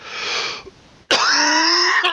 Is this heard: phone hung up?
no